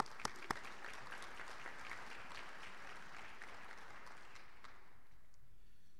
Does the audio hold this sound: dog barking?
no